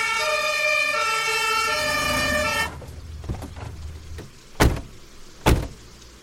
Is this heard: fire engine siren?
yes